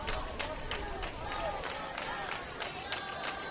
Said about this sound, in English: You can hear the faithful from both sides gleefully cheering on their respective team.